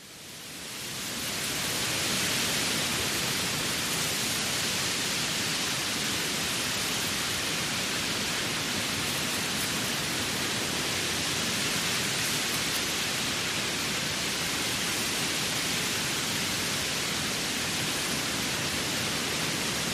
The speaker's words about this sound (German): Das heißt, ich habe das Frequenzspektrum angepasst, ich habe ein bisschen Hall dem Ganzen noch gegeben und weitere Kleinigkeiten an Effekten. Und dann klingt das Ganze wirklich sehr nach einem Herbstwald und hat auch was sehr, sehr Einschläferndes.